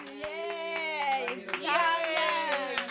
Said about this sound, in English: I mean, that's not much of applause to me, darling.